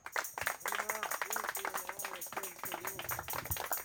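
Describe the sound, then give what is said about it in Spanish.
An audience gives a strong round of applause to the Lord, steady throughout, a dense crackle of many hands clapping, while voices call out and cheer over it. “Le regalo un fuerte aplauso, Señor.”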